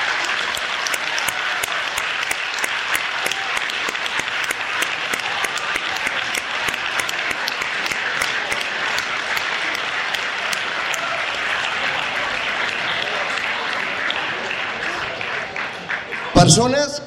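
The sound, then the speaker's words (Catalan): A crowd bursts into sustained applause, dense clapping filling the space steadily for over fifteen seconds before a brief louder burst near the end. “Jo demanaria un grandíssim aplaudiment per totes aquestes persones.”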